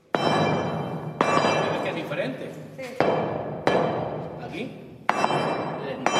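A building caretaker bangs a steel bar down on the floor of a stuffy, damp cellar corridor on Fuerteventura five times at uneven intervals, each loud clank hollow and metallic, with a bright ringing tone that slowly fades before the next blow.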